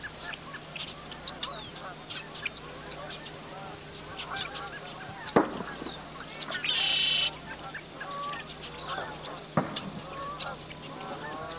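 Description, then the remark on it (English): At sunrise, geese honk repeatedly over a busy outdoor chorus of smaller birds, with a couple of sharp pops and a brief high-pitched burst breaking through; the calls are continuous. “I was really lucky the one day when I went out and got a cow and a dog and all these other little birds and geese coming up with the sun.”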